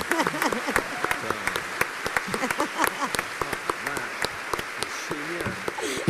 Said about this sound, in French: T'as tout donné et pour ça, on peut t'applaudir